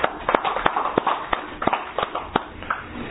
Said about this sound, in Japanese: 満31歳を迎えられましたので拍手でお祝いをします。